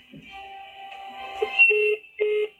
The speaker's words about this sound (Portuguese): Caiu a ligação,